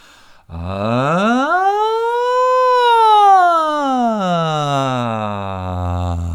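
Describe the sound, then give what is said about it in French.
A single voice imitates a siren as a vocal exercise, gliding smoothly from a low hum up to a high pitch and back down in one sustained arc, steady in loudness, with no talking. “On peut même accélérer un peu la sirène.”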